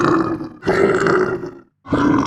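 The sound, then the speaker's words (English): A person imitates a bear's roar, as heard on the radio station CFBR The Bear at 100.3 FM, with three loud, growling bursts, the first two long and nearly back to back, then a short pause before a third begins, no other voices present. “Where you just listen for a whole day of a bear just going.”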